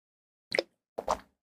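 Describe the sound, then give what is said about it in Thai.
Two short plastic pops from the attached cap of a mineral water bottle being flipped open and shut, about half a second apart, fairly quiet with no talking. “แล้วที่สำคัญคือเขาดีไซน์ฝาขวดแบบนี้ด้วยนะนี่ปิดแบบนี้จ้าแบบมันถูกทำให้แบบฟิกซ์ไว้นะคะจะได้แบบง่ายดายนะคะต่อการเก็บขวดนะคะแล้วก็การรีไซเคิลก็จะง่ายนะคะไม่แยกออกมา”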